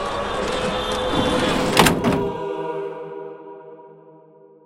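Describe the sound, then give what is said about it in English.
A heavy police van door rumbles along its track and slams shut with a loud double bang, followed by a metallic ring that slowly fades into quiet. “And he threw me into the police van with the others. The door slammed behind us.”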